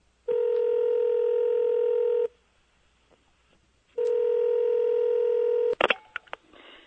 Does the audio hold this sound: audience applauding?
no